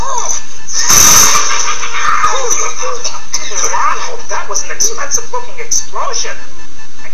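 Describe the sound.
A single loud, sudden explosion bursts out about a second in and cuts off quickly, followed by voices talking excitedly over busy background noise.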